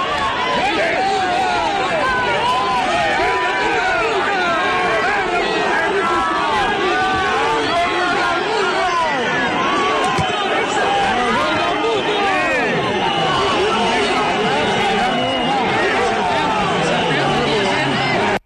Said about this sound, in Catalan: Però abans, hi ha hagut primers moments de tensió ja, algunes empentes i cops i alguna càrrega amb els Mossos d'Esquadra que estan protegint la delegació del govern espanyol cap on s'ha desviat aquest CDR. El so que ens arriba és aquest.